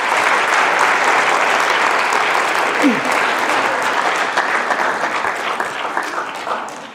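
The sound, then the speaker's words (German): Sustained audience applause, a dense steady roar of clapping hands that holds loud for several seconds before gradually thinning and fading toward the end, with no talking over it. “Das war, ich bin extra langsam gegangen, damit ihr einen schönen langen Applaus bekommt.”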